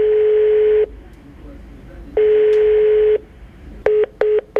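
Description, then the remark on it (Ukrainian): Telephone call tones from an outgoing call to a Russian company and a businessman's mobile phone: two long, steady beeps separated by a pause, then three short, quick beeps, loud as if heard through the handset. “Схеми телефонували у російську компанію та на мобільний бізнесмена”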